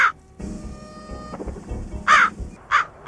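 A crow caws loudly several times, harsh nasal calls spaced irregularly, with a low rumbling background of traffic or street noise between them.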